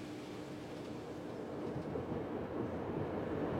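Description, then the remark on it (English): A diesel-hauled train proceeds slowly, rumbling steadily along in a continuous heavy mechanical drone with a faint engine hum running underneath, unbroken throughout, with no voices. “I will now go forward to the leading diesel with my assistance, and we will proceed slowly into the infected area.”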